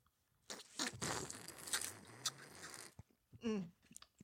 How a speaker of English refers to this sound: What are we about to slurp, girl? Tonight, we are drinking the Thinker's Tonic.